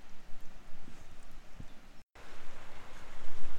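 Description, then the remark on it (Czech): The Korečnický brook (Korecký potok) flows in its valley by the Korečnický mill in a steady, hissing rush with a faint bubbling texture. It cuts out for a moment partway through, then carries on. No one speaks. “Jestli slyšíte vodu, tak je to správně, protože jsme právě prošli údolím Koreckého potoka.”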